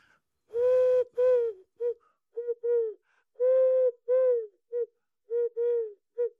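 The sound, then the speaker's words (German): Hollow, breathy cooing whistled through a small gap between the thumbs of cupped hands, imitating the wood pigeon's five-hoot call: repeated phrases of soft hoots in a steady rhythm, clear with no talking. “Das ist die Ringeltaube und die macht 5-mal Hu.”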